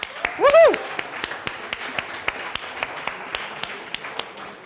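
Scattered audience applause, a thin run of separate sharp claps at a fairly steady pace, with a brief high vocal whoop near the start.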